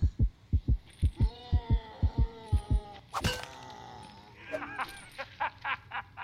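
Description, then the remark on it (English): A steady heartbeat thuds in regular low pulses, with a sharp crack and scattered clattering game sounds cutting in midway before the beating resumes. “Did you hear your own heartbeat?”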